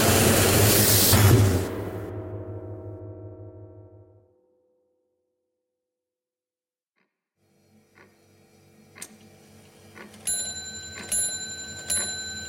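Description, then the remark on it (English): A kitchen wall clock chimes, striking four o'clock in a steady, ringing rhythm with a faint ticking beneath, after a loud rushing burst fades into a few seconds of silence. “The clock on the kitchen wall strikes four.”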